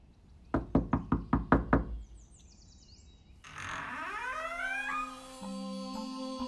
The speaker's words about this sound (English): Good. You've made it. Just knock on that big door up ahead.